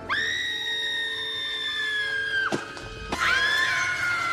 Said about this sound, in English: The lady that's with him. She screams all the time, and it's really annoying. I looked it up. She screams 71 times in this film.